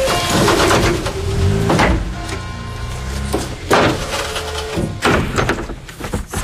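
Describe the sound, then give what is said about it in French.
Several heavy door-closing thuds, roughly three spaced a second or two apart, as a delivery driver leaves after a delivery, over a steady loud background rumble, with faint clatter in between and no one speaking. “Les portes.”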